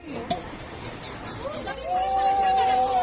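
A single sharp pop of a champagne cork being uncorked bursts out over an excited crowd celebrating a Lotería del Niño prize win at a lottery-selling tobacco shop (estanco) in Oviedo, Asturias, Spain, followed by overlapping joyful shouts and one long, high sustained cry rising above the hubbub.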